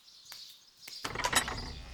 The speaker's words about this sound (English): Listen, I can hear the birds already.